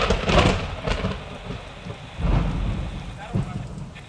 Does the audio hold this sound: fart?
no